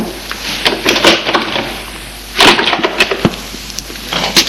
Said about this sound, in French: Elle va ouvrir une porte. J'ai un très grand appartement, vous savez, et elle le guide jusqu'à une porte au fond du couloir. Ouvre la porte.